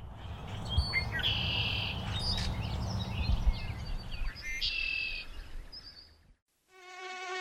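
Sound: red-winged blackbirds calling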